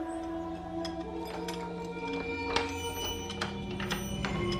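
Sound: key unlocking a door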